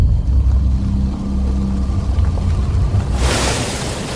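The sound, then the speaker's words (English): A steady low engine-like rumble rolls on for a few seconds, then a loud, broad watery splash surges in near the end as a car with two children strapped inside plunges into a lake. “Susan's car plunges into the water, with Michael and Alex still strapped inside.”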